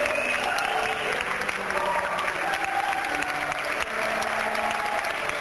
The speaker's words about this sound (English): The dress rehearsal audience erupts into applause.